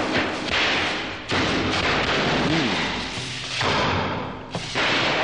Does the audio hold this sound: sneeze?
no